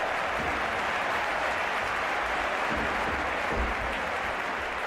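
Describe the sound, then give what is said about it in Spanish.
Sustained applause from a crowd, an ovation for Athletic de Bilbao's match of the day before, a steady dense wash of clapping that holds at an even loudness for the full clip with no voices standing out. “Pues esa ovación para el partido de ayer y para el Athletic de Bilbao, ¿eh?”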